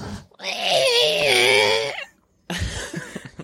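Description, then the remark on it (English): A cat being picked up lets out one long, loud, wavering howl lasting over a second, its pitch rising and falling, followed by a brief pause and then a short burst of rougher vocal noise. “She lays out, lets out this hole.”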